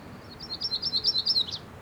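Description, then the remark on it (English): A myrtle warbler sings a soft, buzzy, high-pitched trill of about eight quick rising notes that swell slightly, then end with a brief upslurred note. No voices accompany it. “And that was a myrtle warbler.”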